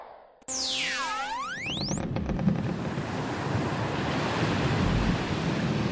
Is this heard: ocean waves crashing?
yes